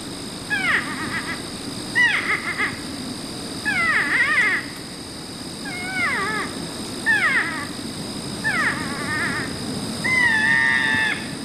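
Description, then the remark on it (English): A North American porcupine gives a series of high, wavering whines and squeals, about seven repeated cries with sliding pitch, sounding eerily like a woman's scream, over a steady background hiss. “Okay. I've got the porcupine. Let's listen to that. North American porcupine.”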